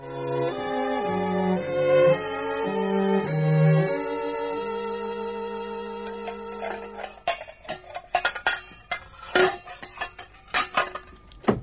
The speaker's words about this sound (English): What are you doing with me pots and pans?